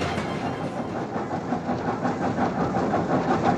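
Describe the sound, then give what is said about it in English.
A train rolls steadily along the rails in Alaska, delivering newspapers to area residents. A continuous loud rumble with rhythmic clacking of wheels over track joints, with no voices. “newspapers for area residents from the moving train.”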